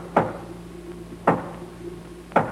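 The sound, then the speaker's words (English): Three firm knocks on a door, said to sound like the boss's knock. They are slow and evenly spaced about a second apart, each a short dull thud over a low, steady background hum. No one speaks. “Sounded like the boss's knock.”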